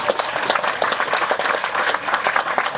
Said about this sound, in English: Very good. You guys really pulled it together. Again, throw yourselves a round of applause. Thank you.